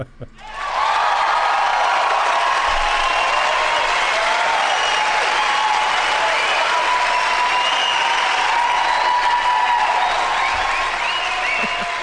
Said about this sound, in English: Well, of course. What would a podcast be like without the obligatory MP3 crowd noise sound? There you go.